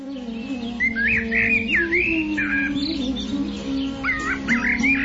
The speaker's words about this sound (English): The valleys beneath Trikuta Mountain are beautifully decorated by many varieties of jungle animals, and in the trees, which are maintained in gardens by the demigods, varieties of birds chirp with sweet voices.